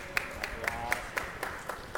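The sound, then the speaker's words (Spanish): Steady, evenly spaced clapping for a quiz contestant who earned a point by identifying a piece of video game music: about eight sharp claps, roughly four per second, fairly quiet over a faint background hum. “Un punto para Osano y aplauso para él.”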